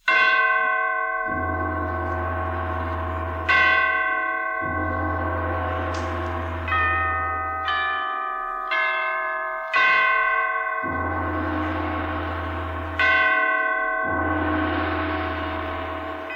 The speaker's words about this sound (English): Catherine the Great had just died, and the great bells of St. Petersburg tolled their requiem. Tolled again the ascension to the throne of Paul I.